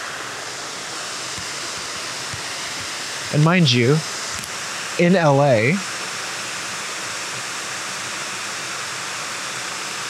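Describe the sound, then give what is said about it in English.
A loud, steady rush of water from a waterfall fills the whole recording, close by and unbroken, with a person speaking briefly twice over the constant roar. “Excuse me, it's so loud because the waterfall's right here.”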